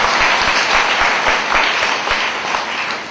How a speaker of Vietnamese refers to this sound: Các em có đồng ý như vậy không? À, nếu đồng ý cho một tràng pháo tay lớn nào.